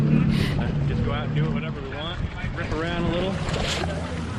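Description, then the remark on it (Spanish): A jet ski engine drones steadily on the water with a loud, continuous motor hum and rushing wind as high school students in Florida graduate aboard jet skis, while faint voices come through in the background. “Como bien has dicho, en Florida, los alumnos de la escuela secundaria Somerset Island se han graduado, ojo, a bordo de motos de agua.”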